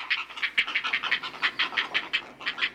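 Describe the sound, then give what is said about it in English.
Heron fledglings call from the nest in a fast, steady series of harsh, mid-to-high pitched clucking notes, about five or six per second, fairly loud and with no talking. “Ah, music to the heron parents' ears. Healthy, growing fledglings ready to take off.”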